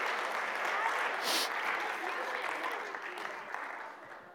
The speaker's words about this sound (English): Hey, how about a round of applause for our helpers today?